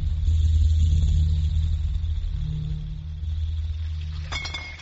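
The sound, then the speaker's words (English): Water is measured out and poured steadily into bottles with a continuous low, gurgling rumble, ending in a bright glassy clink as a bottle is knocked or set down. “I'm measuring the water into the bottles, James.”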